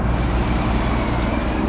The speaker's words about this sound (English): Oh, here comes a big truck. Oh, it's so loud.